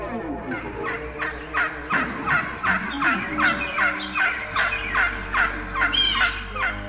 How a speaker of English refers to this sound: That hen is on the ground and is excited. You know, there's a multitude of calls that a turkey will make once they're on the ground. But when a hen desires to be with the gobbler, she's going to be excited.